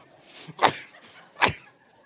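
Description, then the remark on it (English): Two harsh, forceful coughs about a second apart, fairly loud, with a hacking quality as if trying to clear something stuck in the throat. “Cough it up.”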